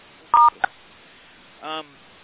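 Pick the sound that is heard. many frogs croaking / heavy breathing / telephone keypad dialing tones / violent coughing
telephone keypad dialing tones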